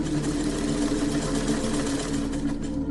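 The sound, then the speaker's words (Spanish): A treadle sewing machine's pedal runs steadily, heard from upstairs: a continuous mechanical hum with a low rhythmic drone that holds an even loudness throughout, with no voices. “No tardó nada en descubrir que se trataba del pedal de la máquina de coser.”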